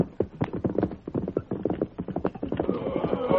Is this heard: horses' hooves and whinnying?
yes